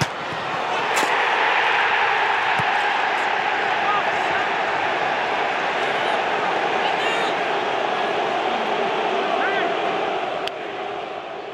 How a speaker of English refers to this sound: Now in this clip you can hear the ball hit the post and go in, City fans cheer, before Leroy is heard from the away fans to mark a goal from German Leroy Sané.